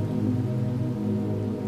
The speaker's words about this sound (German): Erst wenige, dann immer mehr, bis ein Strom von dicken Tropfen unablässig auf den See trommelt.